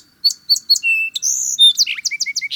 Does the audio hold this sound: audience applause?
no